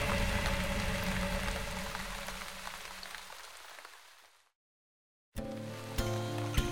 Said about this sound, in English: Outside, it was pouring.